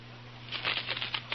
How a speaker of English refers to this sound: Know what I've got here? Sounds like money, and it is. Matter of fact, I've got a handful of genuine foreign coins. Real money you could spend right now in faraway lands.